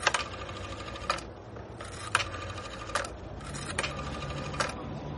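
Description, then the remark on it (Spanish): A phone call is dialed from Barcelona airport and rings: sharp clicks at irregular intervals over steady buzzing ring tones, moderately loud against a low background hum, with no one talking. “En el aeropuerto llama por teléfono a Marc.”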